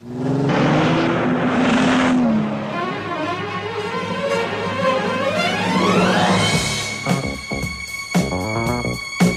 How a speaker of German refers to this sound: Er fährt los und dann setzt auch erst die Musik ein. Also erst Motor anlassen, dann Musik.